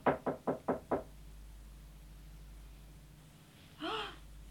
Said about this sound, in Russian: Он тихо постучал.